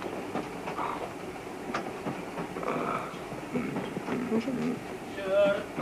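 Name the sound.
train rolling on rails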